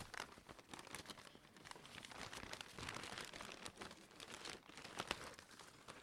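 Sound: rummaging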